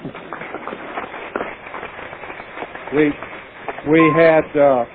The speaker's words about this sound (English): I'll leave the applause on that one.